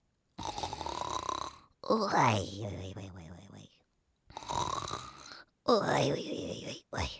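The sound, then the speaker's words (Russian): A voice imitates an old man sleeping and snoring loudly, two long rasping snore cycles, each a harsh inhale followed by a droning, gurgling exhale, clear with short pauses between. “А когда дедушки спят, они что делают? Храпят.”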